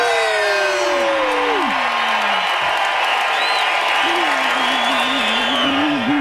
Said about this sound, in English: So if you would, however you celebrate it, we just chant those words, one more sleep, three times, and we cheer. Ready? 3, 2, 1. One more sleep. One more sleep. One more sleep.